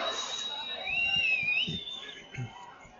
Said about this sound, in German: Sie spielen immer noch hinten rum. Und die ersten Pfiffe kommen jetzt auch.